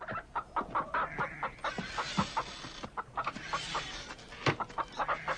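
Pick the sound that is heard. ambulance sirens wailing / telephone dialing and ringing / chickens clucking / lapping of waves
chickens clucking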